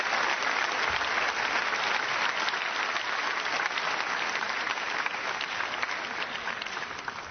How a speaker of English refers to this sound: How about a round of applause for our three volunteers?